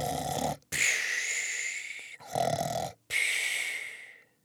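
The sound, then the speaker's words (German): Loud, exaggerated snoring performed by a voice: two full cycles, each a deep rumbling inhale followed by a long, whistling, hissing exhale, continuous for about four seconds. “Und schon saust er durch den Wohnwagen, landet mit einem Sprung auf einem Kissen und gibt ein lautes Schnarchen von sich.”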